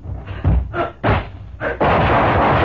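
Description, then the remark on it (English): Three or four sharp, booming gunshots ring out at uneven intervals, followed by a loud, sustained burst of crashing noise. No one speaks. “He didn't hit you with one of those stray bullets, Babs, did he?”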